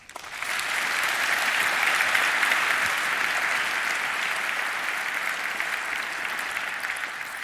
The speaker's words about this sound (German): Ein großartiger Applaus für die beiden.